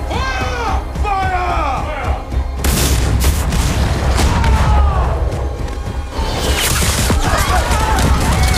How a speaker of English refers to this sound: But my first choice for most impactful moment, without question, is the scene where Metcalf fires his cannons on the village.